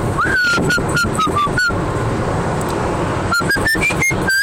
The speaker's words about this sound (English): From listening to myself, you are slightly out of tune when it comes to whistling. I'm trying to see if I can actually make myself in tune.